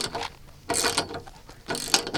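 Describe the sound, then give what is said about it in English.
A ratchet wrench clicks in quick bursts as bolts, nuts and washers are tightened to connect the top of a 20-foot metal pole to an owl box, a rapid ticking that pauses briefly between turns before starting again, with no talking. “The boys use a wrench to tighten bolts, nuts, and washers that connect the top of a 20-foot metal pole to the owl box.”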